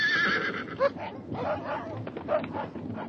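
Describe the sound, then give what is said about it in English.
A horse whinnies in a high, wavering cry near the start, followed by sharp barking from released hounds and a scuffle of movement, all fairly loud. “My horse!”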